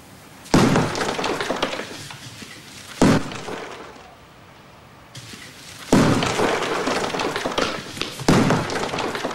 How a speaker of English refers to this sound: Slowly and deliberately, she walks into a room. Puts on some protective glasses. Picks up a sledgehammer and starts knocking down a wall.